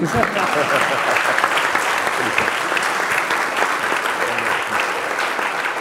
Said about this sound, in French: Vous pouvez applaudir, excusez-moi.